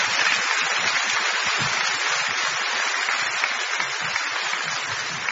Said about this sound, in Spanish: Muchas gracias por su generoso aplauso.